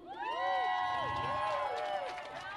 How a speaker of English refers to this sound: So a big hand of applause to Sistering, who serves the food.